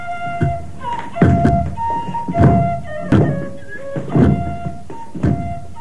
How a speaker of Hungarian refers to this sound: Táncolnak, körbe mennek, ugrálnak, botjaikat ritmusra koppantják.